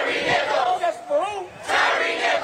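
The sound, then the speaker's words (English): Protesters in the rain in Memphis shout together, demanding changes in their police department: a loud, sustained roar of voices, with wavering pitched yells rising out of the din before the mass of shouting swells again. “Rain in Memphis couldn't keep protesters from demanding changes in their police department.”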